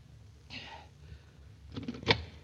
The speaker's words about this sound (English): At once, I ran to his office, avoiding the well-lit streets. And the light was on, and I prayed that he was in. I knocked on the door.